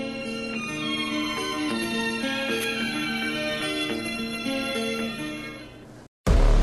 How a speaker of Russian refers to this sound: На телефон поступает звонок от незнакомого человека, который сообщает, что ваш родственник или близкий человек попал в беду, попал в ДТП.